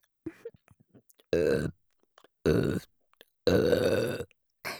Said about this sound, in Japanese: ご褒美の連続ゲップです